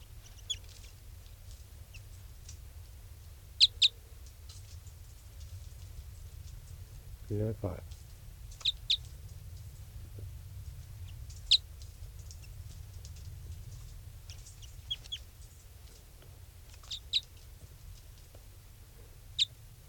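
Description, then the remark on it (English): A bird calls with short, sharp, high chirps, repeated at irregular intervals over about twenty seconds, fairly faint against a steady low rumble of background noise. “Okay, that's 395 calling there.”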